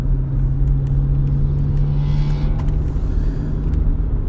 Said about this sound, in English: It looks like a freaking tin can. Somebody did something to it to make it sound like a hot rod. But yes, car's gone.